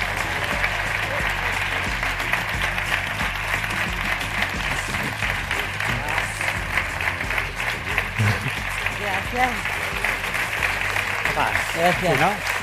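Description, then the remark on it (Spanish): Sustained, loud applause from a large audience fills the whole stretch, a dense steady clatter of many hands with some faint voices underneath, swelling slightly toward the end, as the screenwriter and stars of the TV series Cuéntame cómo pasó are welcomed onto the stage. “Así que recibamos en este escenario a Ignacio del Moral, guionista, y a las estrellas de la serie, Carmen Climent, Pablo Rivero, Irene Vicedo, Imanol Arias y Ana Duato.”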